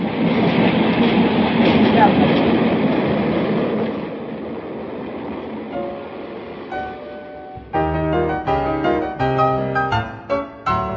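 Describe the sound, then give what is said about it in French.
A train rolls steadily along the rails with a loud, continuous rumble for several seconds, then the noise fades and a bright musical passage takes over. “il est bon de quitter Prague pour un moment et de se rendre, en train naturellement, dans la petite ville de Rakovník, au sud-ouest de la capitale, où se trouve le musée du chemin de fer, le plus vaste de Tchéquie.”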